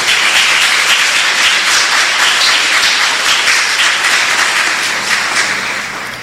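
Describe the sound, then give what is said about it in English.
A crowd applauds students who have worked all year to be promoted to the next grade or to graduate, a dense wash of many hands clapping at once that stays loud throughout and begins to thin slightly at the end, with no talking over it. “And I think that we should just give them a round of applause right now.”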